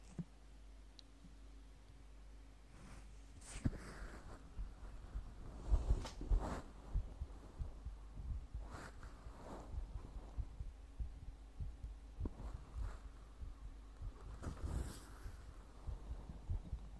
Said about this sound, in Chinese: 先生，只是让你听心跳，脸不可以来回蹭哦。都说了，不可以蹭。